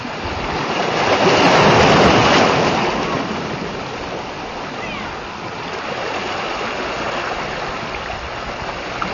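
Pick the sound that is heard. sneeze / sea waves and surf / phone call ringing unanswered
sea waves and surf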